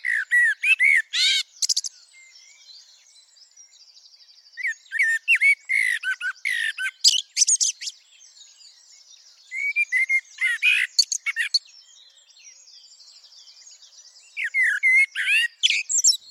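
A blackbird sings four bright, warbling phrases in a garden, each ending in squeaky twitters, separated by short pauses. The song is clear, with only a faint background hiss between phrases and no talking.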